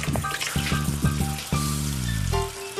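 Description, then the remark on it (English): Water pours steadily into a clean bowl, a splashing, gurgling stream whose ringing tone rises in pitch as the bowl fills. No one speaks. “Another way to see the skin is to take a clean bowl and fill it with water.”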